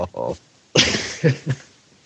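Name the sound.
person imitating monkey noises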